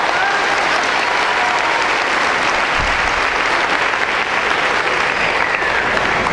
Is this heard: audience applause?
yes